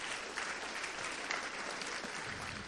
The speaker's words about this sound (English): We have survived. Give yourself an applause for that.